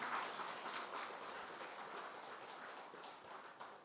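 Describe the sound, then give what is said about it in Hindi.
A crowd applauds steadily, a dense patter of many hands clapping at once that holds an even, moderate loudness throughout with no voices over it. “ताली तो बजाओ जरा।”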